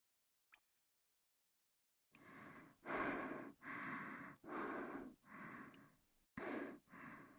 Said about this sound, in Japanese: ごめんね。ちょっと急いだせいで息切れしちゃって。